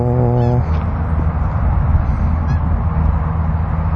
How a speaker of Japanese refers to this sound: ちょっと風はありますけど、マイク感度上げました。これ風のポップノイズの方が大きいだろうな、白鳥の。はい、白鳥。